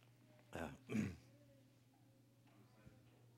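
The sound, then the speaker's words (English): Two quick throat-clearing coughs, one right after the other, followed by quiet with a low steady hum in the background. “You're going to have to excuse my cough a little bit.”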